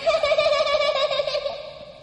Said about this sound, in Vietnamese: Bài 12: nghe chuông. Lắng lòng nghe, tiếng chuông kỳ diệu đưa về nhất tâm.